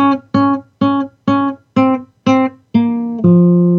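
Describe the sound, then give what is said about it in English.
An eight-note guitar riff in B flat minor: six short, evenly spaced repeated notes, then two longer sustained notes, the last one lower. Played loudly on its own with no voices. “that 8-note riff that we just heard, which I'll play a little bit of on guitar here.”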